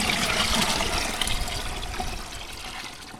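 Splashy sloshing of water from the Cutler River being scooped into a bucket by a kneeling person through a hole cut in the ice, a steady burbling pour that gradually eases and softens over a few seconds, with no voices.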